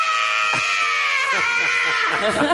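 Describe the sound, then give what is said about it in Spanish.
A single loud, drawn-out scream of pain, voiced by a woman acting out her reaction to an adenosine injection, holding a strained, wavering cry for a couple of seconds before breaking off. “Haz el grito.”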